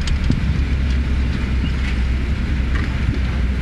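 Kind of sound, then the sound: vehicle, car parking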